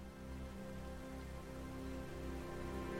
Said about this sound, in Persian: کمی بعد صدای آبشاری رو میشنویم که ارتفاعش بیشتر از 20 مرد سالمه.